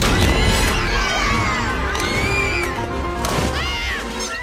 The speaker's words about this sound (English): It's not like that scene in Toy Story 3 where the toys end up in the toddler room and it's total pandemonium.